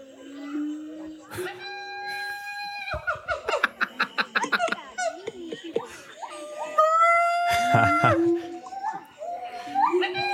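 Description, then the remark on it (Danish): Gibbon calls ring out in loud, tonal whoops: long rising and falling hoots, then a quick run of short pulsed notes climbing in pitch, followed by more sweeping, upward-gliding cries. “Gibbon Monkey Sound. Lad os lige prøve at se, om det her, det kan noget.”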